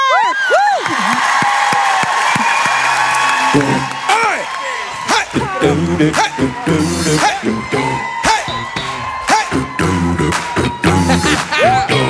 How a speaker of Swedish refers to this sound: Nämligen en stor applåd